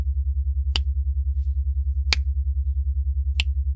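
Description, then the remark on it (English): Three crisp finger snaps, evenly spaced about a second and a half apart, ring out over a steady, low pulsing hum. No one speaks. “Every time I snap my fingers, I want you to pull on your nipple clamps.”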